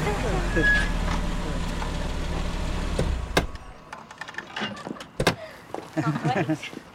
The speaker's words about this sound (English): Dean's car draws up on an empty street.